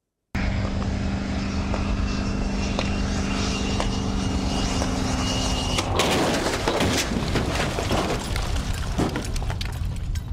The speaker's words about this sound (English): But do they stop EVs? Well, watch this 7,000 plus pound 2022 Rivian R1T electric truck hit a barrier at 60 miles per hour, and you decide if the guardrails stop them or not.